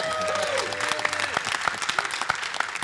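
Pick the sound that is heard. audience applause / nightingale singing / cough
audience applause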